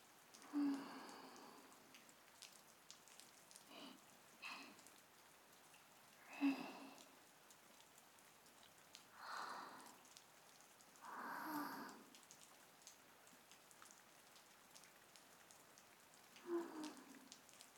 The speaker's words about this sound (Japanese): 雨の音、心地いい。私、雨って好きなんだ。